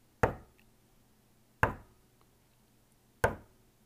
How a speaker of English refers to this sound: It reads, in the snowy town in the middle of nowhere, Vermont, an elderly couple heard the sound of three loud knocks on their door.